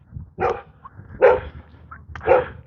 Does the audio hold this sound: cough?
no